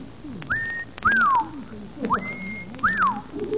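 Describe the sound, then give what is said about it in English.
A person whistles the mating call of the pink bosom warbler in four clear phrases, alternating a rising sustained note with a quick upward-then-falling swoop, fairly loud, imitating a small songbird. “When I first saw them, I whistled the mating call of the pink bosom warbler to see if the mother bird would respond.”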